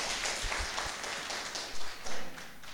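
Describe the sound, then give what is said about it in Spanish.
Scattered audience applause welcoming the Minister of Communication, Marianela Paco Durán: a dense patter of many hands clapping at moderate volume, with a few low thumps mixed in and no voices over it. “Bien, vamos a recibir entonces con un aplauso a la compañera ministra de Comunicación.”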